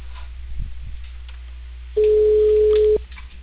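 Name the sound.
telephone ringing tone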